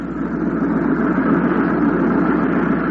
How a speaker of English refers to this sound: a cargo aircraft taxied to the head of the active runway at Benoit Airport. It was loaded with soldiers and their equipment.